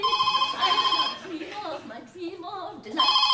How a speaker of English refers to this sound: It begins with the phone ringing.